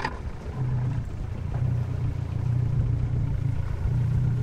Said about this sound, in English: loading up his boat, a rickety plywood tub powered by a potent 115 horsepower outboard motor.